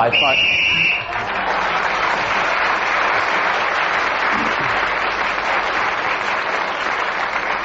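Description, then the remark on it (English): A shrill, steady whistle blast sounds for about a second to end a round of a panel game, then a crowd bursts into loud, sustained applause and cheering that carries on to the end. “Whoever is speaking, when the whistle is blown, gains an extra point.”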